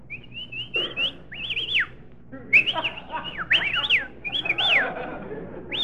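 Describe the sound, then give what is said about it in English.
Several bursts of human whistling, with quick rising and falling glides repeated in short phrases, clear over a faint low background hum. “Well, we may as well whistle at each other.”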